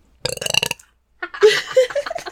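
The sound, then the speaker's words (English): A loud burp rumbles out in a long, croaky stretch, followed after a short pause by a second drawn-out belch with a warbling, voiced quality. “Guess whose burp that was.”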